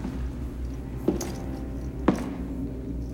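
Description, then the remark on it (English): Two slow, heavy footsteps land about a second apart against a steady low hum, as a young soldier in black boots paces across the hard floor of a cold storage room past a gurney. No one speaks. “He scans past two steel shelves, then paces in his black boots past a gurney.”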